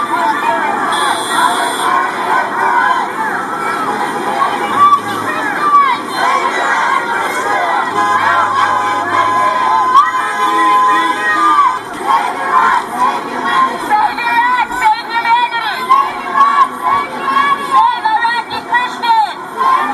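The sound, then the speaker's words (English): A large crowd at a rally for Iraqi Christians cheers and shouts continuously as passing drivers honk their horns in support, voices overlapping in a loud, sustained roar with bursts of chanting and whoops throughout. “Passerbys in the community showed support, honking their horns and giving the thumbs up as they drove by, much to the cheers of the crowd.”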